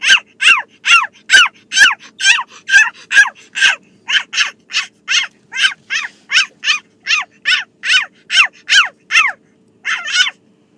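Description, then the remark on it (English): A girl imitates the yapping of a Coton de Tulear, a small fluffy dog, giving roughly two dozen quick, high-pitched barks in a steady rapid rhythm, loud, with no other talking. “That is my daughter pretending to be a Cotton de Tulier.”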